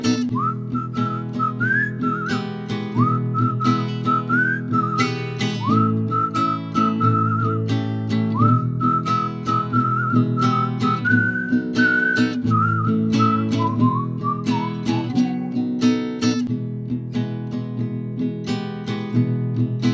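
A human whistles a clear melody over steady folk guitar and low accompaniment, the tune rising and falling in phrases, fairly loud in a folk song, with no talking.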